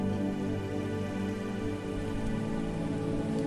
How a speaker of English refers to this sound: As you were doing this, if your thoughts wandered away from the in and outflow of your breath and the lapping of the waves, that's okay and completely normal.